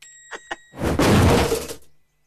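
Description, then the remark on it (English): Two quick knocks, then a loud crash as a blue box slams onto a red wagon, with a rattling clatter that holds for about a second before cutting off. “The blue box crashes onto the red wagon.”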